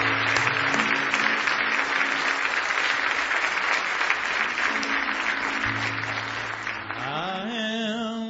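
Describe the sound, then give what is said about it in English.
An audience claps steadily and loudly as a dense wash of hands, a hand clap of praise to the Lord during a morning church service, with sustained organ-like tones underneath that begin to slide and rise near the end. “If you do, give the Lord a big hand clap of praise this morning.”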